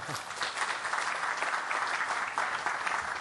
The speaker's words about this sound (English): We've got to finish up, and I don't want everyone to leave before I get clapped, so thank you very much.